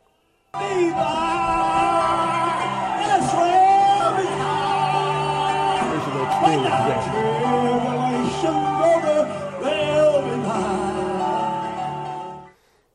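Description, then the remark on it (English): An audience whoops and hollers at a Southern Gospel shouting service, loud overlapping voices rising and falling in excited cries over steady sustained music, continuous for about twelve seconds before stopping abruptly. “It's about getting excited and whooping and hollering. Southern Gospel singing aims directly for the emotions. There's a Southern Gospel shouting service.”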